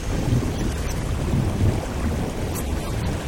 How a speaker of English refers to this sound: I think it's a ground quake.